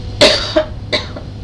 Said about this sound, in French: Bah parce que quand je me tousse comme ça, je mets la main devant la bouche puisque pardon.